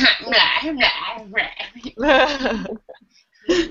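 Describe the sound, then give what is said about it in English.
A dog vocalizes in a run of loud, high-pitched yelps and whining bursts, with a short pause before one last cry. “By the way, my dog just joined for the very end of the interview.”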